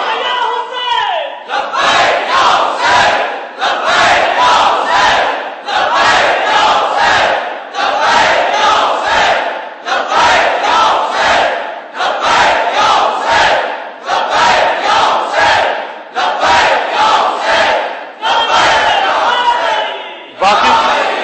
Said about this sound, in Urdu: باقی نعرے ٹھنڈے لگاؤ کوئی حرج نہیں ہے، ثواب کے نعرے ہیں، لیکن لبیک لبیک ٹھنڈی نہیں لگایا کرو.